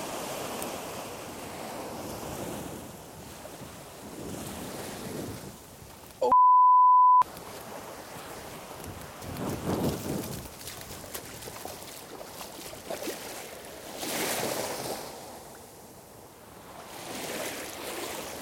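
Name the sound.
ocean waves and surf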